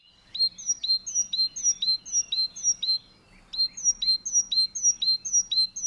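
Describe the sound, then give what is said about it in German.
A bird with a black head, white cheeks and a yellow breast split by a black stripe gives a slightly squeaky call, repeating in a fast, steady series of high chirps, about two per second, with a brief pause midway before resuming; clear with no other sounds. “Der Vogel hat einen leicht quietschigen Ruf, weshalb er auch so bekannt ist.”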